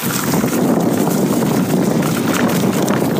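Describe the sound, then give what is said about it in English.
Fallen oak, maple and ash leaves on a crushed limestone autumn bike path crackle and crunch steadily under rolling bicycle tires, a dense, continuous rustling of tiny snaps with no voices, holding an even loudness throughout. “You can hear them crackle under my tires.”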